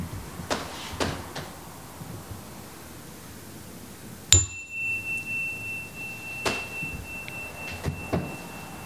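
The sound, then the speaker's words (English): A bell rung in a guided listening exercise is struck once with a sharp attack, then a clear high ringing tone hangs on and slowly fades. A few soft knocks and clicks sound before and after. “As I ring the bell, I invite you to focus on the sound of the bell until you can no longer hear it.”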